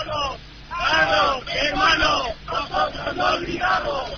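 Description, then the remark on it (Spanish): A crowd of protesters at a demonstration at the Glorieta de Embajadores roundabout shouts slogans together. Their raised voices form a loud, continuous chant with rhythmic rises and falls across a few seconds. “Compañero, te animamos ahora a que te acerques al núcleo de la manifestación y captes el sonido que tenéis en la glorieta de Embajadores y que podamos oír también las consignas que se están gritando ahora mismo.”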